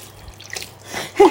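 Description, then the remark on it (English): Liquid from a freshly mixed batch pours into a container, starting with a few faint drips and splashes, then building into a louder, fuller gush at the very end. “I just need to pour it in.”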